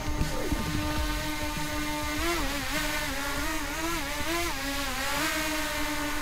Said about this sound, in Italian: Quelle che sentiamo sono le eliche di un drone. Siamo in un parco a Milano, parco di Montestella,